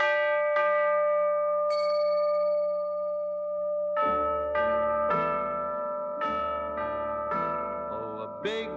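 Bright chiming bells ring over sustained orchestral tones in the intro of an orchestral song: a few isolated strikes ring out and decay at first, then a quicker run of overlapping bell strikes builds, fairly loud, with no voices.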